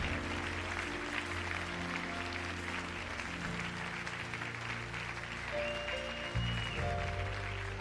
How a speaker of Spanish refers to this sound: ¿Cuántos pueden dar un aplauso al Señor?